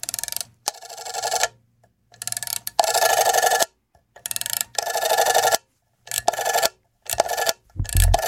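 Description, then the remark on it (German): A rotary telephone dial (Wählscheibe, or number dial) is turned and released several times, each spin giving a whirring, ratcheting buzz followed by a short pause before the next digit. No talking. “Den Jüngeren muss man das schon ein bisschen erklären, also es ist eine Wählvorrichtung, so klang früher Wählen.”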